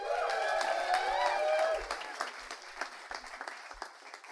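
An audience at a storytelling evening applauds as the first storyteller comes up onto the stage, dense clapping mixed with high whoops and cheers at first, then thinning out into scattered, individual claps as it fades.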